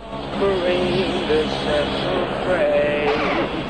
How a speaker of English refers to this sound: The curly-haired 50-something pilot, Hoagie, banks the six-seater plane landward. He brings it level with the runway.